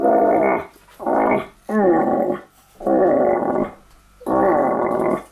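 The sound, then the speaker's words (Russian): A hunting lure blown to call a deer, mimicking a rutting call: five loud, raspy, drawn-out moaning blasts in a steady rhythm with short pauses between, with no other sounds. “Оленя подзывают.”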